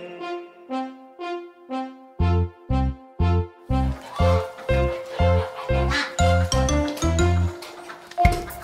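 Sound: duck quacking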